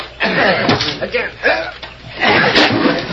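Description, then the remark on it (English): Eight or ten men grunt and shout together while a door takes a few heavy, dull thumps as they ram it to push it in, the blows landing irregularly beneath the loud, strained voices. “8 or 10 of you push that door in.”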